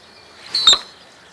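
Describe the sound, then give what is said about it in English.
A single sharp, high-pitched chirp made by a male bird's tail feathers, spread wide momentarily during a dive at around 50 miles an hour. It is brief and loud with a whooshing edge and a faint steady high tone around it. No voices. “The male spreads his feathers out like that, just as wide as he can, but only momentarily, to generate that faux chirp sound.”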